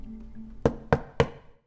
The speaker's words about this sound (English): I go to the back of the apartment where I see the door with the ducky on it. And at 3:01 precisely, I knock.